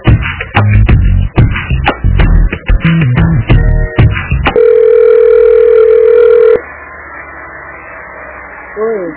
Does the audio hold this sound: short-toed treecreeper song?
no